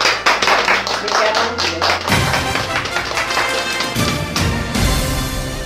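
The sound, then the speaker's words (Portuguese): A group claps steadily for several seconds after a Mother's Day tribute from the Ayrton Senna school, a dense wash of overlapping hand claps that stays fairly loud throughout, with some voices faintly mixed in. “Uma salva de palmas agora.”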